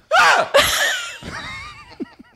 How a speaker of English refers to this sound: Is that your rape call, girl? That's my. Oh, yeah. Girl, you stay safe. Girl, I don't need no whistle. You stay safe in the streets. I just scream super loud.